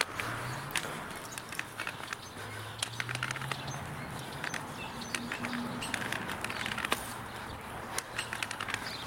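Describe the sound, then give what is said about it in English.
Birds call and chirp in quick, scattered bursts in the early morning against a quiet outdoor background, with a faint low hum drifting underneath; no one speaks. “Oh, I love the sound of these birds.”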